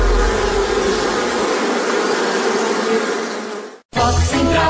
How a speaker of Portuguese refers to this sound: sabe qual é o animal mais perigoso do mundo? É o mosquito. Ele pode transmitir a dengue, zika, chikungunya.